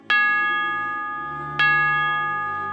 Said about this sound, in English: The bells rang out in celebration of the wedding.